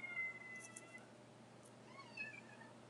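A cat meows a few times, the thin, wavering calls rising and falling over a steady low hum, with no one talking.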